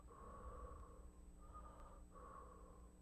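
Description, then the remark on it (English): Soft, quiet breathing in slow, steady cycles, three gentle breaths with brief pauses between them, hushed like a sleeping baby, with no talking. “Have you ever been by a baby when they're breathing, like they're sleeping? It's just a soft little.”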